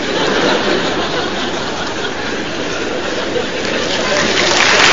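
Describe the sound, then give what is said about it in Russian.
An audience applauds in agreement, a dense, steady wash of clapping that holds at a loud, even level throughout, with a hint of crowd laughter mixed in. “Вот, и когда люди аплодируют, они соглашаются.”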